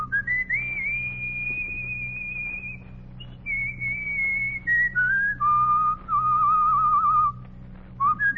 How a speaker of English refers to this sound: The Duke took a long breath. He thought back to the tune he'd whistled in the Washington Street when the gang gathered. And he began to remember it, to whistle it.